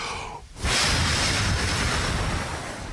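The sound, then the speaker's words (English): A loud, steady gush of water being poured out of a barrel, the eighth barrel in a row, after a brief quiet moment, rushing and splashing continuously with no voices present. “Eight barrels of water.”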